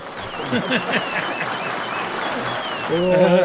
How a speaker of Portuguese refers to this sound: Tem um aplauso?